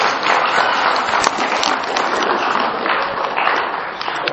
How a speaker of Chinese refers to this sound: 站起来讲，20岁以下的，我们给他们鼓掌，20岁以下的。